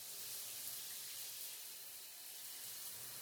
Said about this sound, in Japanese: それじゃあ、シャワー流しますよ。まずは髪の方から。